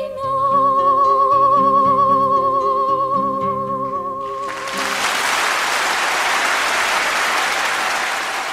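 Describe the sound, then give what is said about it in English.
A melodic instrumental passage plays for a few seconds, then an audience bursts into loud, sustained applause for a singer who has just finished singing, many hands clapping densely together until the end. “And then there was such applause. Unbelievable. You could hear from the clapping hands and from the applause and everything that something is happening.”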